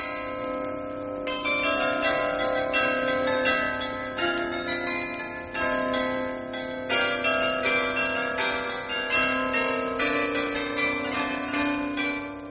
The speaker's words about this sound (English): and he was able to listen to that new item at the Utrecht Fair, Dutch bells for export.